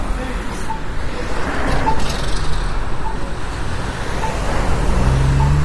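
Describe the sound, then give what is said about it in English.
An accessible audible pedestrian traffic signal at a crossing on Frankfort Avenue beeps steadily, about once per second, and vibrates. It grows louder with the ambient noise as cars go by, over a continuous rumble of passing cars and road noise that swells as vehicles pass. “And you may be able to hear this traffic, this accessible traffic signal, audible traffic signal. It actually vibrates. You'll notice it gets louder when cars go by.”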